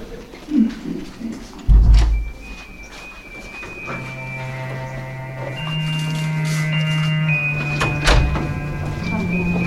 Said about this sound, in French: Bon, allez, je pousse la porte et je reviens.